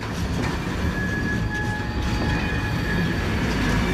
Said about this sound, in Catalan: Aquí hi ha un tren, però no recordo si era aquest